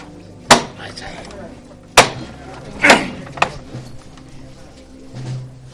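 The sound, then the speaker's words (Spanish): A silver knocker (llamador) on a religious procession float (paso) strikes four sharp, ringing blows at uneven intervals, the third and fourth coming quickly together, over a low murmur of voices, signalling the float to resume its march. “Escuchábamos los sones de ese llamador de plata, que también contrasta con la oscuridad de la madera tallada de la canastilla”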